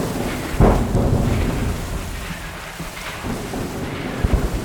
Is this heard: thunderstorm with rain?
yes